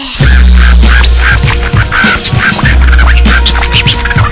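A loud bird call, like a duck quacking, repeats in quick, uneven bursts over a steady low rumble, with no one speaking.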